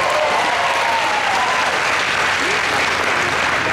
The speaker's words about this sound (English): round of applause for food and beverage right now.